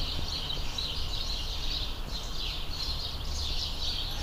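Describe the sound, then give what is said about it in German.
A dense outdoor chorus of birds chirping and singing at once, a steady overlapping wash of calls, fairly soft, with a low background rumble and no talking. “Hier ist für euch das Vogelkonzert in Vogeldur, Vogelmoll, wie auch immer.”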